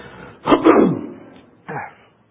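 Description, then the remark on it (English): A loud, harsh cough bursts out, followed a moment later by a second, shorter and softer cough, with no talking. “You know, I think I should have gotten something for my cough.”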